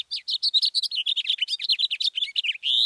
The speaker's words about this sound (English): House finches sing sweetly, but often have a sharp, buzzy note near the end. Listen.